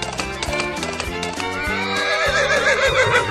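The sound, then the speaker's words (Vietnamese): The hooves of a pair of large, strong black horses pulling a carriage clop in a quick, uneven rhythm while a horse lets out a long, wavering whinny that rises and falls in pitch, both loud and clear with no talking. “Chiếc xe được một cặp ngựa ô to lớn khỏe mạnh kéo nên chạy rất nhanh.”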